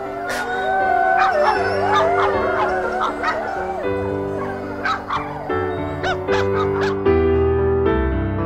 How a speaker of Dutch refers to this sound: En in de verte hoor ik de Mongoolse honden blaffen die de kudden bewaken en hoor ik het gehuil van de wolven in de bergen.